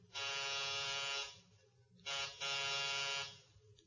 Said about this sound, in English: Three B Simpson. Chalmers E. Simpson. Press the buzzer.